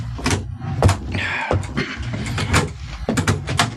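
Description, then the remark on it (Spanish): Car doors open and slam shut several times in quick succession as people get out of a car stopped on a deserted street, each a sharp thud, with a brief creaky squeal of a hinge partway through and a low background rumble. “Bajan del auto.”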